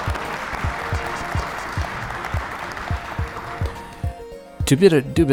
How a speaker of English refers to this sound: So, tell you what, let's give me another round of applause, because I'm very self-gratifying that way.